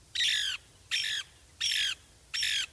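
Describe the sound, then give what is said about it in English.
Four harsh, raspy calls of a Lewis's woodpecker sound in an even, steady rhythm, each about half a second long with short pauses between. They come through clear with no talking. “A century of logging and fire control has taken its toll on these mature pine forests, the preferred nest site for the Lewis's woodpecker.”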